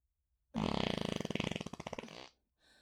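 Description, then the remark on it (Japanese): A long, loud, rasping fart lasts nearly two seconds, sputtering in rapid pulses that slow slightly toward the end, alone. “うん、そうだよ。おならだよ。おなら。”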